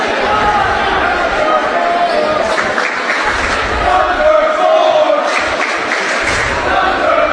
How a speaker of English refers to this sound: Student section cheering for the young man that just came in for Tuscola, number four.